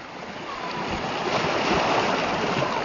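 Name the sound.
sea waves and surf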